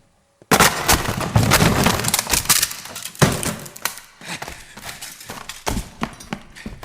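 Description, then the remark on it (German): A door is forced open with a burst of loud wooden crashing and splintering cracks, then a second heavy blow and a string of irregular thumps that gradually soften. No one speaks. “Brechen Sie die Tür auf!”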